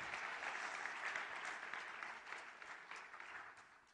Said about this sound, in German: Danke, liebe Brüder, für euren Einsatz. Gib ihnen einen Applaus. Großartig.